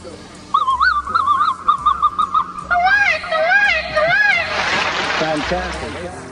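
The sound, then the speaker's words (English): A voice imitates bird calls with quick, repeated warbling whoops that grow into overlapping, swooping cries, loud over a soft low rhythmic backing. “Say, listen, how do you do those bird calls”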